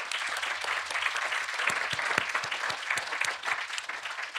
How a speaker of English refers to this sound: A round of applause for that gentleman.